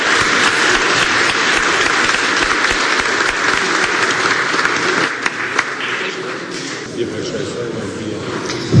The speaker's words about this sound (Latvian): bet pirms pārtraukuma es gribu mums visiem lūgt piecelties un sveikt ar aplausiem